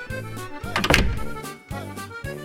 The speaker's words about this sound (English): Suddenly the door opened.